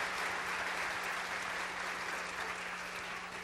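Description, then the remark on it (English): An audience applauds steadily, giving another round of applause for the Lord Jesus Christ: a dense, even wash of many hands clapping at once that holds at a constant level throughout, with a faint low hum running underneath. “Let's give them another round of applause, please, for the Lord Jesus Christ.”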